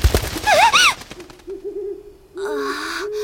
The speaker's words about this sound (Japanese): フクロウか、驚かせないでよ。でも随分大きなフクロウみたい。翼の音が重たいもの。